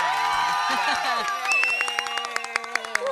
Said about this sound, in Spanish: Somos todas pocos, chicas, pero todas buenas, chicas acá. Muy buenas aplaudidoras somos.